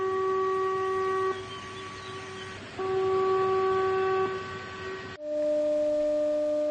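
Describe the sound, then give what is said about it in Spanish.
Emergency sirens sounded at 12 noon for a dam-break drill at the Cecebre reservoir in Galicia, Spain, heard in Cambre and Culleredo, sound in long, steady, loud tones with a few brief breaks, then switch abruptly to a different sustained pitch near the end; no one speaks. “Y atención, no es real, aunque lo pareciera, un simulacro de rotura del embalse de Cecebre ha hecho sonar las sirenas de emergencia a las 12 de esta mañana.”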